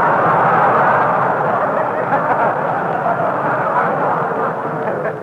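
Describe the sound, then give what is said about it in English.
A steady, loud rumble of a passing train fills the whole stretch, a dense continuous roar with no voices and only slight shifts in intensity. “That's a train.”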